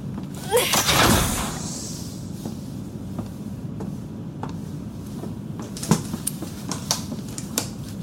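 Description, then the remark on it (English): A medical bay door is hauled open by hand using the manual door controls, with a loud grinding slide lasting about a second, then a low steady hum with scattered faint clicks and knocks. No one speaks. “I see the medical bay. Can you open the door? No. Please use the manual door controls.”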